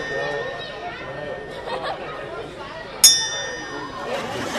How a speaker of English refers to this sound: But you got a bell up above. Ring that bell for us.